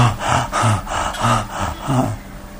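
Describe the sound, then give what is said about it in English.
A voice imitates the heavy, labored breathing of the gopis, about four or five rough, rhythmic breaths in and out, each a loud, airy rasp with a low throaty edge, like someone struggling for air. “Oh, sighing, heavy breathing. Turning pale from their heavy breathing.”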